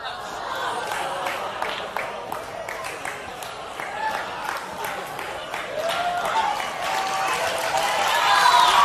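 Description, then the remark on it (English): An audience claps steadily in a dense patter of overlapping hand claps, mixed with crowd voices and cheering that swell louder toward the end. “I mean, they're clapping, and I'm like, this is a bunch of witches.”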